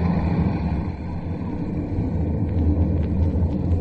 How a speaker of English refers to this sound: Unseen from the ground, the leader gives a signal. Instantly, the roar of the engines dies to a low throb, and the section glides in for a landing.